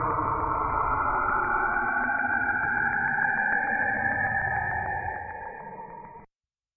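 A loud, dense electronic drone fills the air with steady humming and a slowly rising whine, swelling over a few seconds before fading slightly and cutting off abruptly.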